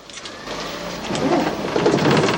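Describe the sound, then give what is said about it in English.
A large coach engine, started by Mackay from the driver's seat, turns over and catches, its rough mechanical rumble swelling in loudness and settling into a steady, throaty idle with a clattering rattle on top. “He starts the engine.”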